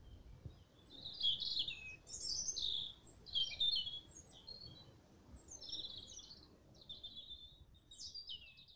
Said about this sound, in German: Du bist draußen unterwegs und spazierst durch einen Wald. Die Sonne scheint zwischen den Baumkronen und der Wind streicht zart durch die Blätter. Vergnügt singen die Vögel.